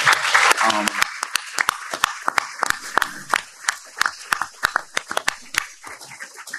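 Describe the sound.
A smallish audience applauds a couple: sharp, irregular claps that stay steady and moderately loud, then thin out toward the end. A voice is heard briefly at the start.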